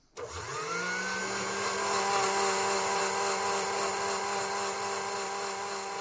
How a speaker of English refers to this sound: What's that? It's a stand mixer. A stand mixer? What is it good for? The stand mixer is one of the most valuable kitchen appliances a housewife can long for.